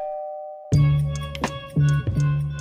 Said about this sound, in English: He rings the doorbell.